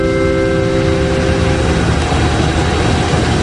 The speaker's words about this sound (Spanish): ¿y cómo hubiese sonado tu voz si hubiese sido la persona que habla por megafonía, yo qué sé, en el aeropuerto? A ver si este indicativo, este sonido, lo escuchas.